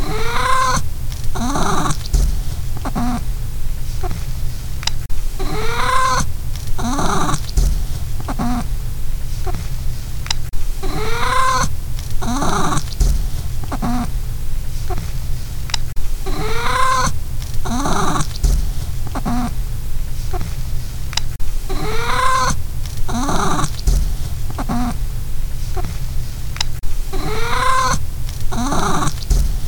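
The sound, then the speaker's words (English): A cat named Pippa yowls while pooping, repeatedly in long, drawn-out, wavering cries, one after another at a steady pace, loud, over a low constant background rumble with no talking. “So, without further ado, here is 30 seconds of my cat making the sound she makes when she does kitty poops.”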